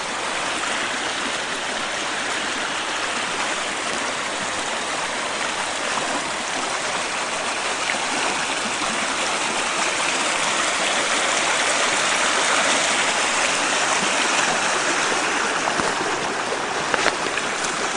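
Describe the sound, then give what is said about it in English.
Steady rushing of creek water tumbling over rocks in an area of the creek that is almost frozen over in early winter, a continuous babble and hiss that holds at an even level throughout with no voices. “This area of the creek is almost frozen over.”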